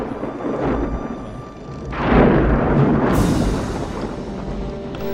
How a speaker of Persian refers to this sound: طوفان شده، بلند شید تنابه رو محکم کنه. عجب توپانه